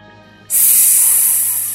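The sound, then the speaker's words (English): The snake Kaa's hiss bursts in abruptly and holds as one long, loud, sharp hiss, sustained to the end over a faint low background hum. “Sss! Kaa spoke.”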